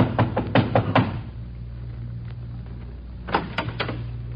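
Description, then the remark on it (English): A quick run of five knocks on a mother's front door, then a pause and a second burst of three knocks, each one sharp over a low steady hum. “Until I passed through his town again and I knocked on his mother's door.”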